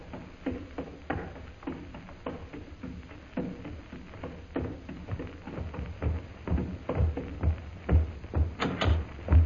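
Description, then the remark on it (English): A door in a castle being opened, with a run of rattling clicks and wooden knocks that build into heavier, louder thumps near the end, without any voices. “Wonder what's on the other side of this door.”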